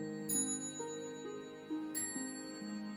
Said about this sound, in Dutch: We moeten even wachten. De klok slaat. Hoor je de klok ook slaan? En die slaat wel heel veel keren, want het is avond natuurlijk, hè?